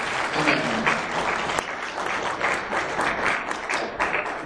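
An audience bursts into sustained applause, a dense, steady wash of many hands clapping at once that stays loud throughout without fading.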